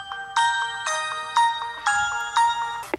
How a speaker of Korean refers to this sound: 동시에 1등의 핸드폰이 울렸다.